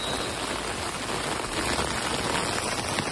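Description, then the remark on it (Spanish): Steady, heavy rain from storm Claudia pours down in Avilés, Asturias, Spain, in a dense, even hiss across the whole clip, with a constant loud wash of drops and no voices. “Claudia, por si no lo sabes, es la borrasca que ha pasado por agua a media España este fin de semana.”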